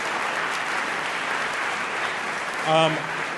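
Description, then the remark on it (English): Steady, dense applause from a debate audience for everyone who asked a question fills the whole stretch at an even level, with a brief voiced shout or cheer rising out of it near the end. “I just want to give a round of applause to everybody who got up and asked a question.”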